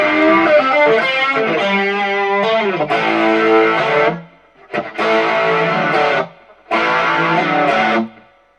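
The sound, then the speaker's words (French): Electric guitar, pickup selector in the intermediate position between bridge and middle, played through chorus, distortion and chorus pedals, plays a thick distorted, chorus-swirled sustained melodic line, then three loud strummed chords separated by short silences, with no voices. “je mets un chorus, une distorsion et un chorus. Si possible analogique, c'est vraiment plus crédible. Et là, cette fois, on a vraiment le son à la …”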